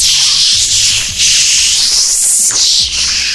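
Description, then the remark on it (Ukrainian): Air hisses steadily out of a heating radiator's bleed valve, being bled with a screwdriver in an apartment of a nine-storey building with central heating at the start of the heating season: a loud, continuous high-pitched rush that swells and dips slightly, with faint low gurgling beneath it and no voices. “Отже, друзі мої, беріть викрутки, спускайте повітря у ваших квартирах у 9 поверхівках, слухайте оце...”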